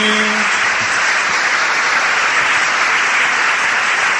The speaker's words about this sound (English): Psalm 47, verse 1. Oh, clap your hands, all ye people. Shout unto God with the voice of triumph. The Almighty God has all the people to clap their hands. Well, you can go ahead and do that.